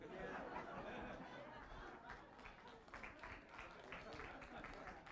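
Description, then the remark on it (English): A crowd applauds steadily for several seconds, the clapping dense and continuous with scattered chatter and a few chuckles mixed in, at moderate loudness. “Are you clapping for my memory or my age?”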